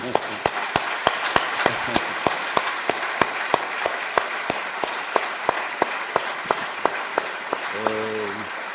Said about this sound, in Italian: E quindi grazie a te, e io lo facciamo risentire con un applauso.